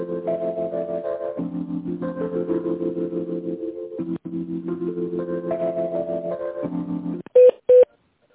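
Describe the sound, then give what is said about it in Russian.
A steady electronic hold melody plays on a phone call to the company Anima Holding, then two short, loud telephone keypad beeps sound in quick succession at the end, dialing an employee's internal extension number. “Если вы знаете внутренний номер сотрудника, наберите его или дождитесь ответа администратора.”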